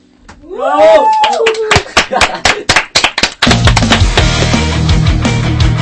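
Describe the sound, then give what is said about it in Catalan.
Audience applause after a song performance: a rising and falling whoop, then loud separate claps that thicken into steady, dense clapping with a low hum underneath. “Doncs res, quedem amb la boca oberta i amb aquests aplaudiments sí, molt merescuts.”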